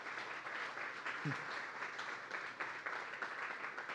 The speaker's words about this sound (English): How many of you love the Lord? Give Jesus a big hand clap if you love Jesus.